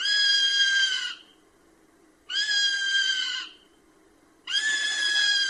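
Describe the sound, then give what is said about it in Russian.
A common buzzard circling high above the ground gives three loud, drawn-out mewing cries, each lasting about a second and evenly spaced, clear with quiet pauses between them and no talking. “Когда конюк кружит высоко над землей и издает крики, тем самым он обозначает границы своей территории.”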